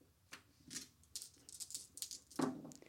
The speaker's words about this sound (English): So we know you have your three cleric dice, so why don't you head and go roll a three for healing?